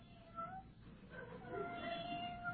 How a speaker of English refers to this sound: Oh, sounds like a little kitten at the screen door. Let me turn on the outside light. Oh, McGee, look, a little kitten trying to get in the back door.